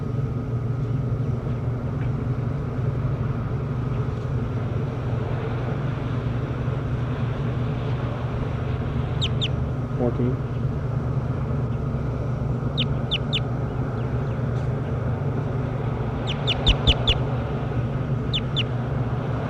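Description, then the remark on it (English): Faint, high-pitched bird calls in short clusters of two or three chirps recur every few seconds, heard in the distance over a steady low rumble, with no talking. “So recording bird 10.”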